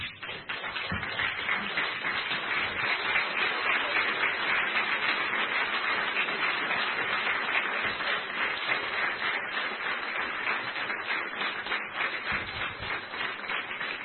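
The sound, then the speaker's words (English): A church audience stands and claps together for their pastor in sustained, dense applause that holds steady for about fourteen seconds, a continuous wash of many hands with no voices breaking through. “I want you to stand right now and give your pastor a great life, a great round of applause.”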